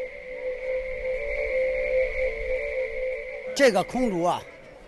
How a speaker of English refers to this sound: This is a Chinese yo-yo. It's made of bamboo. It's round and has holes on the sides. Each hole acts as a whistle. There's an axle in the middle. You put it on a string between two sticks and give it a tug.